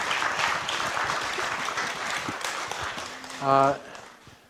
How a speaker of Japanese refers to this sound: Let's give her a hand of encouragement. どうかあの励ましの拍手をお願いします。